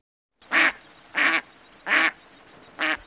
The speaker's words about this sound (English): Birds feed and shelter in the salt marsh and bay in winter, particularly brant and Canada geese, buffleheads, red-breasted mergansers, and black ducks. Listen for the black ducks.